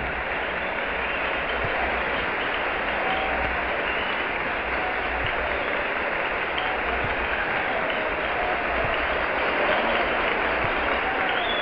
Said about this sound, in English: There's tremendous applause here as the general comes down the aisle, preceded by the committee.